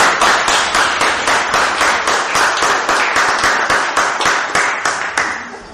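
An audience applauds steadily for several seconds, a dense, even patter of many hands clapping that holds strong and then gradually thins out toward the end.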